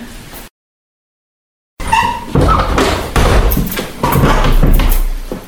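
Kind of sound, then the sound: household object, door being closed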